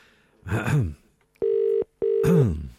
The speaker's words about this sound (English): I'm going to ring RTE right now to see if we can... Gotta put on my phone voice now.